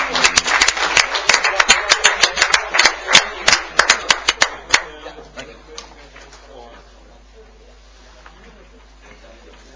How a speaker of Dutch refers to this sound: Jongens, even een applaus voor het hebben van een krant.